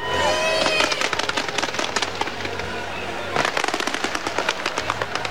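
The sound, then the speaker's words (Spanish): Fireworks at the Olympic closing ceremony in London crackle and pop in rapid, dense bursts, with whistling streaks early on and a fresh flurry of sharp bangs midway, loud throughout over a constant crowd-like roar. “Luces, música y juegos artificiales fueron los encargados de poner punto y final a 16 días de emocionante deporte en una gala de clausura en la que, como broche final, la cultura inglesa pop fue la estrella de la noche.”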